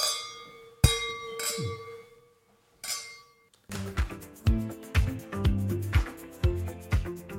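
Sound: wine glasses clinking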